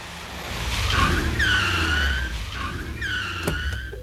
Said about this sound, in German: Das Auto raste noch ein Stückchen weiter, dann bremste es.